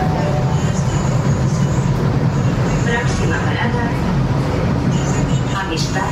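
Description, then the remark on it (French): A subway train rumbles steadily, a dense low roar with rattling and squealing overtones, while faint voices murmur beneath the din. “Je descends rapidement du métro, emprunte l'escalator”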